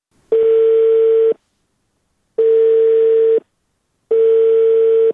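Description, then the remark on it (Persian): A telephone ringback tone: three steady, loud one-second tones separated by two-second gaps of silence, a call to Mohammad Ismail Kavousi, head of public relations at the Ministry of Public Health, ringing unanswered on the line. “به طور مثال تلفن‌هایشان چنین عکس العمل نشان می‌داد برای ما.”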